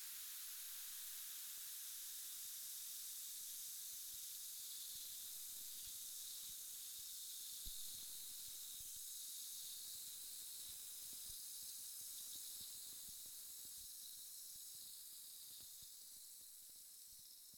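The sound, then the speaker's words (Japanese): A steady fizzing hiss runs unbroken throughout, bright and airy, with tiny scattered crackles and pops like bubbles bursting; no one speaks. “ですからマスター、シュワシュワした音を聞きながらでいいので、あなたのことを教えてください。”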